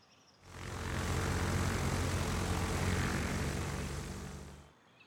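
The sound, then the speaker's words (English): A loud, steady aeroplane engine roar with a propeller drone swells in, holds for several seconds, then fades out quickly. No voices. “Let's take an aeroplane.”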